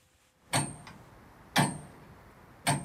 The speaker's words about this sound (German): Das ist immer faszinierend für die Kinder. Die kennen ja heute nur noch digitale Uhren. Und wenn die denn so ein Uhrwerk sehen und hören, wie das Tick, Tack macht, die sind immer ganz fasziniert.